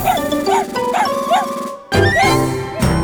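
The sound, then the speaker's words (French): A small dog barks in a quick, steady series of high yaps, pauses briefly, then resumes barking with a busy, slightly muffled background underneath. “Sauf toi, mon petit chien. Alors, est-ce que ça t'a plu?”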